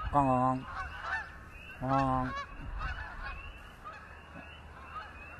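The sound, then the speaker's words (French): Geese honking as a flock flies in and passes overhead, two loud harmonic honks about a second apart followed by fainter calls over a soft outdoor background. “ah voilà les vols d'oies qui arrivent là, ils vont nous passer au-dessus, on les entend.”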